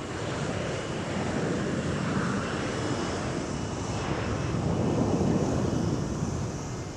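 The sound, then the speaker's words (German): A steady, loud roar of a jet aircraft on the runway at Berlin-Tegel airport, heard from the cold, windy visitor terrace, mixed with gusty wind buffeting the microphone, continuous throughout with no voices. “Berlin-Tegel. Otto-Lilienthal-Flughafen. Auf der Besucherterrasse ist es kalt und windig.”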